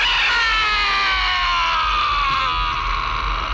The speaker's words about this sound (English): Here's the worst scream that we've heard in a while.